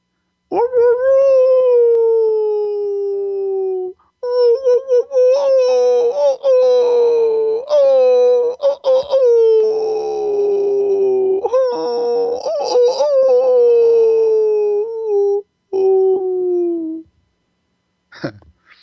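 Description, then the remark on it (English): A human voice imitates a wolf to make a wailing sound, producing long, wavering howls that rise and slowly fall. Several sustained calls come in a row with brief breaths between, loud. “And one of the easiest ways to do a wailing sound is to do the sound of a wolf.”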